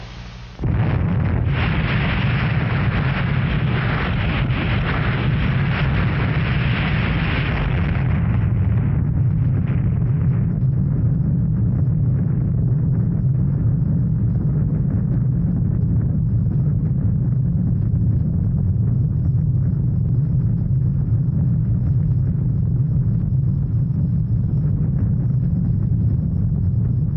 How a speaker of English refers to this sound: Just 24 hours after the 30-megaton explosion, it was thought safe enough for the test crews to enter the area around Ground Zero and examine the remains.